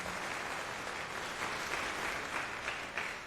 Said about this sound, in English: Give him a warm applause, please.